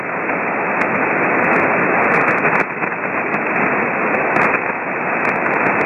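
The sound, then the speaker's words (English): Steady, loud hiss of radio static at a noise floor of 8 fills the whole stretch, a broad rushing noise with faint intermittent clicks and crackles on top and no voices coming through. “My noise floor is an 8, and you are right there in the noise floor.”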